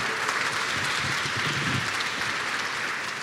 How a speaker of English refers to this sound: Thank you so much. Can we give it up for